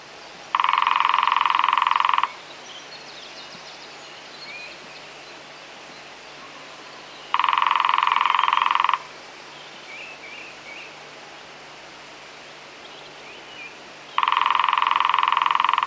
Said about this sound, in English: The lesser-spotted woodpecker is the smallest and least common of the UK's three species of woodpecker. He's most often found in the tops of trees, where it creeps along branches in search of insects.